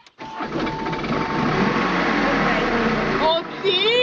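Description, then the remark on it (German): A microcar engine cranks and catches as the driver holds the brake and gives a little gas, then settles into a loud, steady run that rises in pitch as it revs near the end, with a voice faintly audible underneath. “Und jetzt anlassen und dabei die Bremse treten und ein bisschen Gas geben.”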